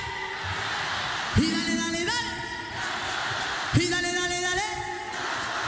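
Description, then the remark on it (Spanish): A large festival crowd at Viña shouts and roars in two big swells, each rising sharply in pitch and holding for about a second before settling back into a steady, loud wash of cheering. “Quiero escuchar el grito de Viña.”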